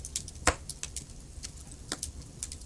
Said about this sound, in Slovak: Počúvali zvuky praskajúceho dreva. Každé jedno prasknutie postupne uvoľnilo každé drobné napätie z tela. Všade okolo vás už bolo pokojné a príjemné prítmie. Jediné svetlo vydával krb a v ňom praskajúce kúsky dreva.